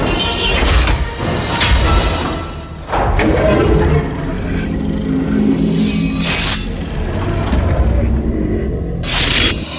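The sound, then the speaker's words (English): In a film scene, loud crashes of breaking glass panes burst out several times in irregular succession as a lawyer is split by the panes of glass, each sharp shattering hit ringing out over a dense, rumbling layer of thuds and heavy impacts. “The lawyer being split by the fucking panes of glass.”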